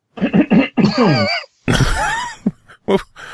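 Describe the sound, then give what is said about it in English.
Someone clears their throat loudly and at length, with a few short guttural bursts, a drawn-out voiced rasp, then a rough, noisy hack and a couple of trailing clicks. It is exaggerated. “I just needed to clear my throat.”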